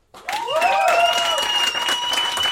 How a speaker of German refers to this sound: Okay, also euer Applaus für die Frage: